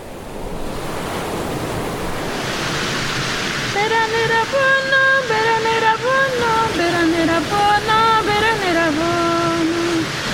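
A steady rush of flowing water runs throughout, and partway in a voice begins singing sustained, wavering notes over the continuous watery noise.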